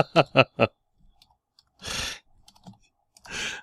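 Four quick taps of typing on a computer keyboard as someone types a message land in a short burst, followed by two soft, breathy exhales with quiet gaps between them.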